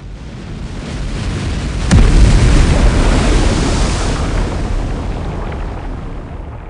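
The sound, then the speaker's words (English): A heavy wave crashes down onto a bridge over a river with a sudden booming impact, followed by a long roaring wash of churning water that slowly fades. Loud, with no voices. “Witches from the bayou emerged to the river, and a ghost wave came crashing down on the bridge, throwing Crusaders and Inquisitors into the water, where the drowned folk made sure they would remain, dragged them down to the bottom of the stream.”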